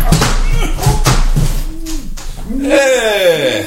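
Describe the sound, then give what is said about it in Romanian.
Several heavy thuds strike a door that was meant to stay locked, at uneven intervals and forceful, as someone kicks against it to break it open, with straining grunts and effortful vocal noises between and after the blows. “Ia să mă pintesc în ușa asta, că doar nu o fi de fier.”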